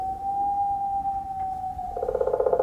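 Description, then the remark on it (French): A wolf howls in one long, steady mid-pitched note held for about two seconds, then breaks into a rougher, pulsing quaver at the end. No one speaks. “Loup.”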